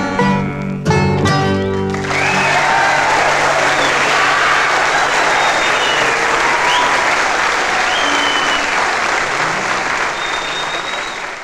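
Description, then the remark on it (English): A live audience bursts into loud, sustained applause right after a musical passage ends, dense clapping with scattered cheers and whistles continuing steadily to the end. “We always listened very closely to what the band was saying while the audience was clapping to try and work out what they were doing there.”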